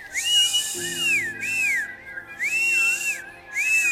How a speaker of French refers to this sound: Orphée arrive dans la forêt, il entend plein d'oiseaux.